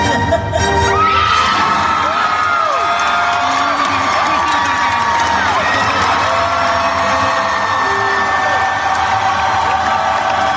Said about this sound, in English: So obviously Ewan McGregor is walking out on stage right now at D23, so that's why the crowd is going nuts. There's a giant image of Obi-Wan Kenobi behind him at this point.